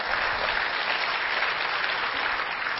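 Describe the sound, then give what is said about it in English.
A crowd applauds steadily in honour of Jesus, a dense wash of many hands clapping at an even, loud level throughout, with no voices standing out. “Yeah, that deserves a round of applause. I think you should give Him one.”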